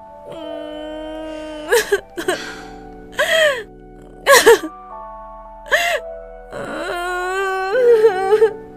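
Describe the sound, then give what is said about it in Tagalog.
A woman cries and sobs in a series of sharp, shaky gasps and whimpering breaths, fairly loud, with a steady tonal background running underneath. “Baka mamaya dumating pa bigla si Cholo at madat nang kang umiiyak”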